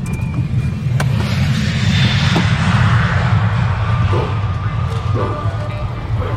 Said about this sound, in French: Hop, attention à l'avion.